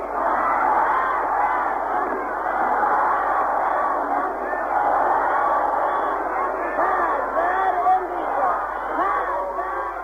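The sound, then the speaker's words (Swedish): Thousands of participants at Friday prayers in Iran chant the slogan 'Down with America' in unison, a dense roar of many voices that rises and falls steadily for the whole stretch, sounding muffled and narrow like an old broadcast recording. “skrek fredagsbönens tusentals deltagare ned med Amerika.”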